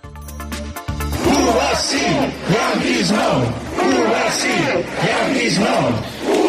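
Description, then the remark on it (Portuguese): A large crowd at a protest march in Xove, Galicia, Spain, over the aluminium industry shouts rhythmic chants in unison, loud and sustained, with repeated swelling phrases and a dense wash of voices. “Pues ahí están precisamente los gritos de ayer en Xove.”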